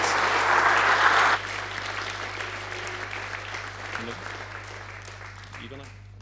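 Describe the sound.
An audience breaks into loud, dense applause that fades to softer scattered clapping after a second or so, with faint voices murmuring underneath.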